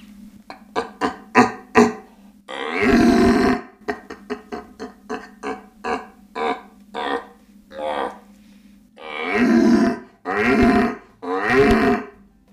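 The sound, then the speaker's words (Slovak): A human voice imitates the rutting roar of an old red stag that already rules a herd of hinds: a string of short, deep grunting bellows, then several long, loud, drawn-out roars, with no speech. “Starý jelen, starý ktorý jelen už ovládol čriedu jelenic.”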